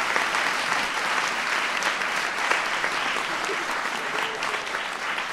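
Steady applause from an audience, dense clapping that holds at an even, fairly loud level for several seconds with no pauses and no voices standing out.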